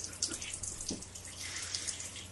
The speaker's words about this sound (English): Do you like the background waterfall sound effects?